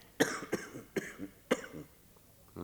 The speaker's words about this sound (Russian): Кашляешь ты все. Да, в сырые дни грудь побаливает и нога.